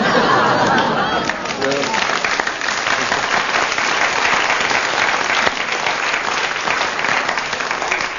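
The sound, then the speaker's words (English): Sustained applause from an audience fills the whole stretch, a dense, steady wash of clapping with some crowd chatter mixed in, staying loud throughout. “Long applause for that one.”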